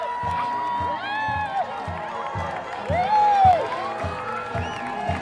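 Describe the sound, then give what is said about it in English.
A street parade crowd of young and old in Telluride lines the streets, cheering and shouting steadily as hockey players parade through town followed by a bright green Zamboni, with rising and falling whistle-like tones cutting through and a regular low thumping beat underneath. “Telluridians young and old line the streets cheering as players parade through town, followed by a bright green Zamboni.”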